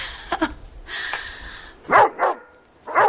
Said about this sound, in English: I don't know why he barks at you. Well, I wouldn't take it personally. Dogs are very sensitive.